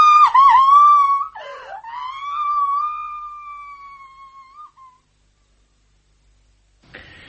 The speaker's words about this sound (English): Oh, for God's sake, can't someone stop that girl screaming?